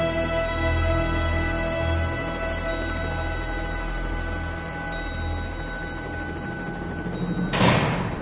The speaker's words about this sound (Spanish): Han corrido la puerta de metal.